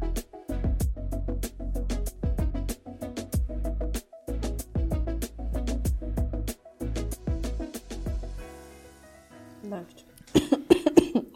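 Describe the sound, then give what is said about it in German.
A long coughing fit: a rapid series of harsh, loud coughs repeating for several seconds, then a brief pause before a few more rough bursts at the end. “Läuft und hustet.”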